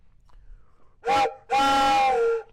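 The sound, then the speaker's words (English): A train whistle sounds two loud, chord-like blasts, a short toot followed by a longer sustained one, with no talking over them. “And let me see if I can get my train whistle here.”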